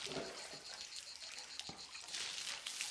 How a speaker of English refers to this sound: pours water over his head, and it drips down his body.